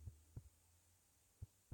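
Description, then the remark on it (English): A muffled human heartbeat heard with a head resting on the chest, deep soft thuds at an unhurried, uneven pace over a steady low hum, with no voices. “Your head is on my chest. You can hear my heartbeat.”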